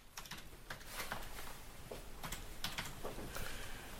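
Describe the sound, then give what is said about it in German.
Quick typing of a password on a computer keyboard to log in to a program, a dozen or so crisp clicks in an uneven rhythm, over a low hum with no one talking. “Wird sich eingeloggt, mit einem Passwort.”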